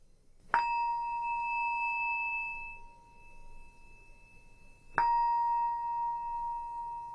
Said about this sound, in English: And when you hear the sound of the bell, I invite you to gently open your eyes and come back to the room.